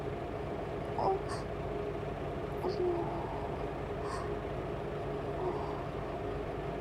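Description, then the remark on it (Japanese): The diesel engine of a railway track-maintenance motor car idles with a steady, low, throbbing rumble throughout, fairly loud, with a few faint brief higher-pitched sounds rising over it. “モーターカーなのにディーゼルエンジン音が聞こえるなんて。”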